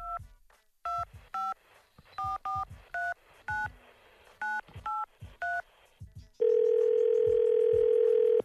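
On The Breakfast Club radio show, a phone number is keyed in as a quick run of about ten beeping touch-tone digits, then a steady, loud ringing tone sounds continuously on the line.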